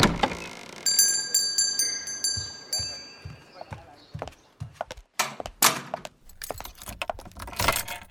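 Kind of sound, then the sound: household object, keys jangling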